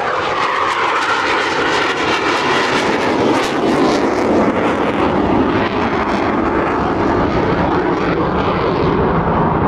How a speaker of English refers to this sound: If you've not had your bins emptied around Coningsby, I do apologise, but there are typhoons taking off, so, you know, takes precedent.